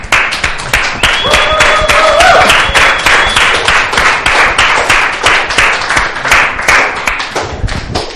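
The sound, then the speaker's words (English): A standing audience applauds the dads steadily, dense overlapping claps filling the whole stretch at a sustained, loud level, with a few brief whistles or cheers rising above the clapping early on. “And then we can all stand and then just applaud.”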